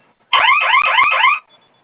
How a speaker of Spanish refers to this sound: Y vamos a presionar nuevamente sus dos botones de fuego o de flamita, los dos por 5 segundos al mismo tiempo. Ok. Va a sonar su alarma y ingresamos su clave.